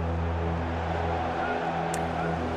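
A plane droning overhead during a Premier League match involving Burnley, a steady low engine rumble with humming harmonic tones that holds evenly throughout, with no talking.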